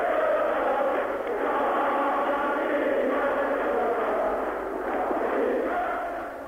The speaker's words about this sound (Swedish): Demonstranterna ger uttryck för sitt djupa förakt med busvissningar och burop.